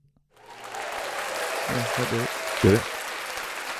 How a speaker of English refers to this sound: Yeah, it's still going. All right, good. I'm still getting applause. Stop. Okay, it's done now.